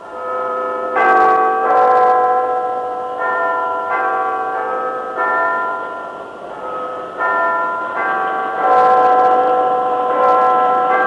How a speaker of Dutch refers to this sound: Bij het 6e fluitje. Hoort u de Big Ben?